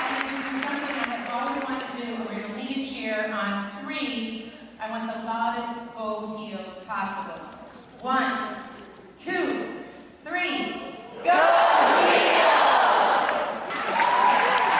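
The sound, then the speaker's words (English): UNC chancellor shouts energetically over a PA in bursts on Monday night, pumping up the crowd, then a large crowd erupts in loud, sustained cheering and roaring for the last few seconds. “Chancellor … was full of school spirit Monday night, pumping up the crowd.”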